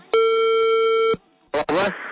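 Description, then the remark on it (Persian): One steady electronic phone tone, about a second long, heard as a Radio Azadi program places a call to a mobile phone, followed by a brief pause and then a voice beginning to speak. “خوب حالا بید به یک رقمی موبایل زنگ می زنیم.”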